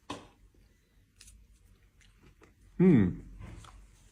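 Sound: chewing crunchy food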